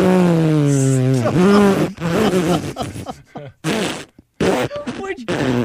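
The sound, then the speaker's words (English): A voice imitates a long, drawn-out horse fart: a low, sustained vocal blat lasting a few seconds, then sputtering into choppy, breaking bursts before trailing off. “I swear to God, that horse rips one, and it goes on for like a minute. It's like...”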